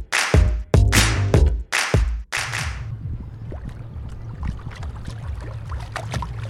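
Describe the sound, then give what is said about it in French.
Several loud splashes and sloshes of water against a small boat on the Canal de l'Ourcq in Paris, then a steady low rumble with soft, irregular lapping as the boat keeps moving along calm water. No voices. “Bon, du coup, on se retrouve sur le bateau.”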